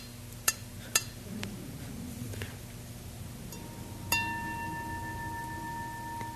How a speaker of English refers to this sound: And as you know, if you hold it really lightly, the bell, you can make a nice sound that you can't make if you grasp onto it.